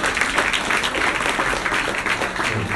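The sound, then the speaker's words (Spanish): A crowd applauds the word of the Lord after a scripture reading, steady, dense overlapping claps forming a loud, continuous wash of noise that holds evenly throughout without any voices. “Dale un aplauso a la palabra del Señor.”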